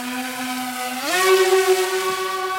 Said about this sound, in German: Also wie man hier hört, der hat die Drohne so langsam vom Boden in die Luft steigen lassen und dann schwebt sie kurz über unseren Köpfen und rast dann mit einem Ruck davon und kann auf bis zu 130 Stundenkilometer beschleunigen.